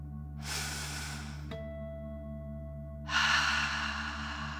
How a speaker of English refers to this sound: Again, breathe in through your nose and out through your mouth, pretending you are breathing fire. Deep breath, in and out.